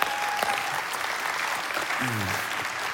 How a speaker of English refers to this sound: Eastern Hills, get ready to clap. We are 40 years old, everybody. We did it.